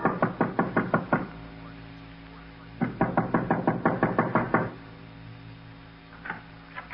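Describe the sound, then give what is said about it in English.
Loud knocking on a front door in two rapid bursts of several raps each, with a quieter knock or two near the end; no voices. “Mullins was feeling mighty fine about 2 hours later when there was another knock on the front door.”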